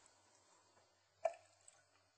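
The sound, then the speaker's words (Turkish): A small splash of rose water poured into a pot of sugar and water for a sherbet syrup, one distinct plop followed by a faint drip, with no talking. “Gül suyumuzu da koyacağım.”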